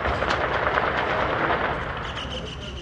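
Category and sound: impact, gunshots ringing out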